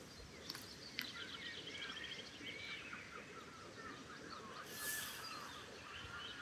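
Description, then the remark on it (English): A flock of seagulls calls overhead, a steady jumble of overlapping squawks and cries from birds high up, with a low outdoor rumble underneath and no voices. “Seagulls in the background.”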